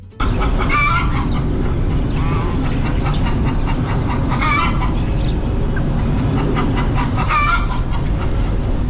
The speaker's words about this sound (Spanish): Cacareo de gallinas. Y también de fondo oímos un poco el ruido del polígono industrial de Jundiz. Nos ubicamos en el término municipal de Vitoria-Gasteiz, en su zona rural más hacia el oeste, en Zuazo de Vitoria.